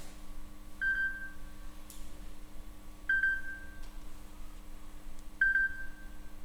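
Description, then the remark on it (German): An alarm clock beeps three times at a slow, even pace, each short electronic tone followed by a pause, fairly quiet against a low steady hum with no talking. “Es war Montag, als plötzlich Milas Wecker anfing zu piepsen.”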